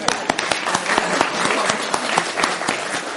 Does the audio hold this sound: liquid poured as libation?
no